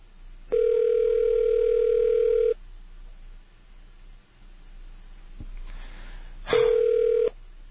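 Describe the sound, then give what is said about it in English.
A telephone ringback tone purrs on a call to Discover Card customer service: one steady two-second burr, a pause of several seconds with faint line hiss, then a second ring that cuts off short. No one speaks. “If nobody picks up the phone, of course, they're not going to win.”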